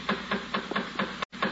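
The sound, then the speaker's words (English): A quick, steady series of about seven knocks on a door, evenly spaced and moderately loud, with a brief break near the end before one more rap. “The door.”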